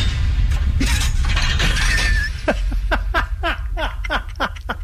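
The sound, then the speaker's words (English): A big door or motorized gate closing sound effect: a loud crashing, shattering clatter for a couple of seconds, followed by a steady series of about eight sharp metallic clanks winding down, with no talking. “It's a big door.”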